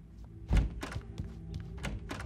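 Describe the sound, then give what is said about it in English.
A heavy door mechanism in a Remedy video game thunks loudly, followed by a quick series of lighter metallic clanks and clicks as it keeps operating, with no voices. “Remedy must have gotten a package deal on those door operation noises or something.”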